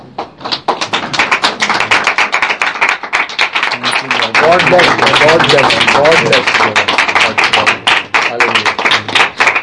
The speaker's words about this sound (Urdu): زوردار تالیاں جی خدا کے خادم کے لیے.